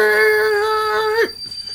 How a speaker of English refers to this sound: As the brakes lock up and the train screeches down the tracks, and all three of you lurch in your seats as the train slowly comes to a halt.